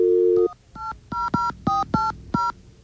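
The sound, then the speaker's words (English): A steady dial tone cuts off, then a phone number is keyed in as a quick series of six or seven short, bright touch-tone beeps in an uneven rhythm. No one speaks. “But let's call that other number and see if we...”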